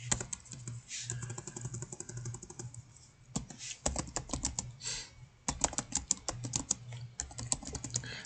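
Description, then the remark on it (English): Rapid, irregular clicking of keys on a computer keyboard, fairly loud, with bursts of fast keystrokes and brief pauses, plus a low steady hum underneath. “More and more typing.”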